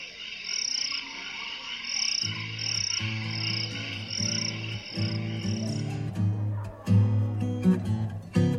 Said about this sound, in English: But until then, I'm just going to let you listen to some crickets as we watch the campfire roll.